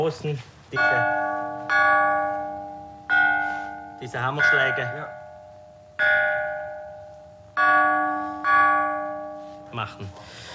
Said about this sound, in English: He says one can play the stones with mallets, hammering them, or one can rub them together.